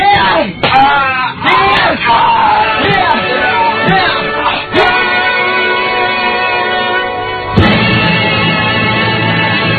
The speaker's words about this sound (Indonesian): Teruskan, Rawis. Cambuk lagi. Cambuk lebih jelas. Lihat saja kakang Kilat Bahu. Punggungnya mulai robek.